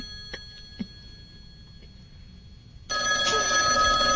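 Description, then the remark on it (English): A telephone starts ringing after a few quiet seconds with a couple of soft clicks, its bright, buzzy electronic ring sounding loud and continuing until the end. “I'm going to call into the show. You ready? All right. Here we go.”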